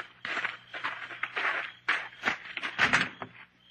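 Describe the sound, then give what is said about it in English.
A Jeep door opens with a series of rough, hissing mechanical bursts and clunks, fairly loud and uneven, over a faint low hum, with no voices. “When did you put a photoelectric cell on the Jeep door, Slate?”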